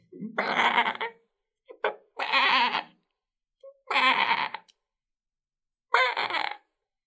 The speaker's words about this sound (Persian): او از پشت صخره‌ای که نزدیکش بود صدای بعبع ضعیفی را شنید.